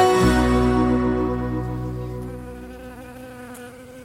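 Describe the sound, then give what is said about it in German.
Bees buzz in a steady, droning hum that starts loud, then slowly fades over a few seconds as if drifting away. No one speaks. “Habt ihr sie gehört? Die Bienen.”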